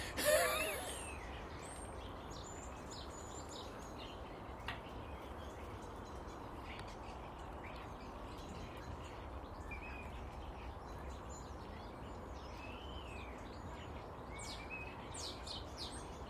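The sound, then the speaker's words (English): A flock of starlings chatters continuously, a busy tangle of high squeaks, clicks and whistles layered over a steady hiss, with a brief sharp burst at the very start. “Listen to those starlings chatter.”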